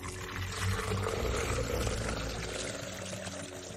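Water taken from a backpack is poured steadily for several seconds in a hot, barren desert, a continuous splashing stream with a low gurgle, as if filling a cup or bottle to drink.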